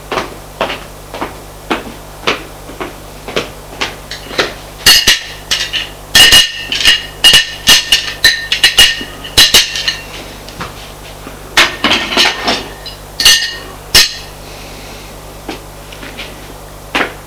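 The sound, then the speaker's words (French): Plates and dishes clink and clatter as a maid changing the plates sets them down and gathers them, a steady run of sharp, bright knocks with busier ringing bursts in the middle. No one speaks. “La bonne entre pour changer les assiettes.”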